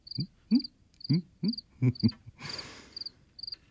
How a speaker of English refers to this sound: My field crickets here, they love orange peels. I drop in my peels every morning and they sing in gratitude.